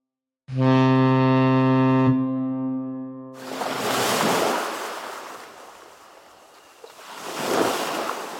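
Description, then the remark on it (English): A deep ship's horn blasts once for a couple of seconds, then fades into loud rushing ocean waves that swell and ebb, with no one speaking; a ship sailing across the ocean to America in 1884, carrying Nikola Tesla. “In 1884, he packed his bags and sailed across the ocean to America.”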